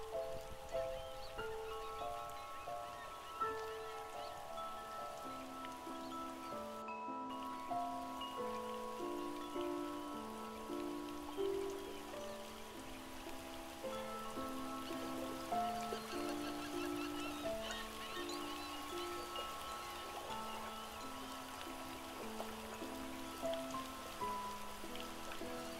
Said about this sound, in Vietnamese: Bởi vì mưa phùn không tạnh, sắc trời vẫn âm u, cho nên phải 8 giờ hơn, trời mới sáng hẳn.